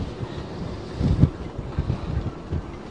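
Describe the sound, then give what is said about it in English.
Wind whistles through the rigging of boats at Eliason Harbor on a Monday afternoon, a steady breathy rush with low buffeting gusts that swell loudest just past the first second, then ease and surge again. No one speaks. “I'm down at Eliason Harbor where the wind has picked up again on this Monday afternoon. You can hear it whistling through some of the rigging.”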